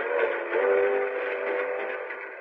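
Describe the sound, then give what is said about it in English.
A train pulls into a station in Chicago with a steady mechanical roar, a sustained whistle-like tone riding over the rumble for the whole stretch, fairly loud, with no voices. “waiting for the plane to land, the boat to dock, the train to pull in. Here's Chicago, next stop.”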